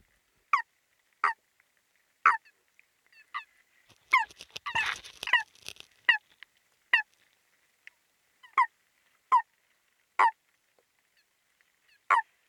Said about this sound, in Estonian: Ja nõnda kõlab kärgkonna laulu vee all tehtud helisalvestus.